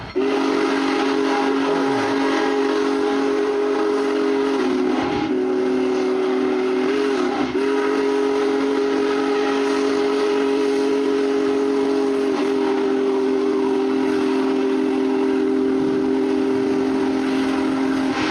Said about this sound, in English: And what I thought was astounding is I have no idea where the train tracks are. It's like the train is coming down. It looks like he's plowing through people, this huge crowd.